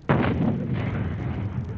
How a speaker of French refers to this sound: En même temps, à la tour de Londres, les artilleurs honoraires de la reine, eux aussi, tirent le canon. C'est fini, le dernier coup de canon vient d'être tiré.